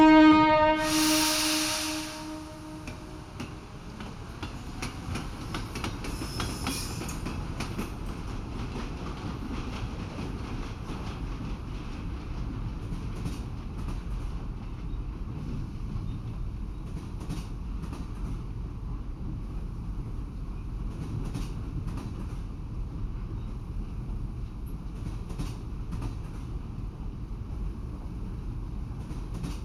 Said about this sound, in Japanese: それでは、癒しの寝台列車、アルデバラン、出発します。